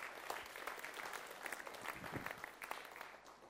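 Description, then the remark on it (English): A small group claps steadily for a few seconds for a speaker, a dense patter of hand claps without cheering, moderately loud. “Give him a hand clap.”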